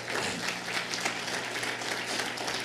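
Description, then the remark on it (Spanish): An audience applauds steadily during a Spanish-language church service, giving a round of applause to the Lord: a dense wash of many hands clapping at an even, sustained level for a few seconds with no voices standing out. “Dale otro fuerte aplauso al Señor.”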